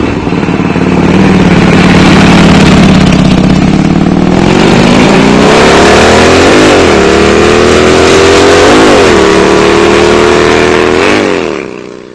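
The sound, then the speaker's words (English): A Harley Davidson trike engine rumbles steadily, then revs upward in several rising pulls with brief dips between gear shifts, a deep throaty growl sustained for the whole stretch with no talking. “They've got one of those Harley Davidson tricycles.”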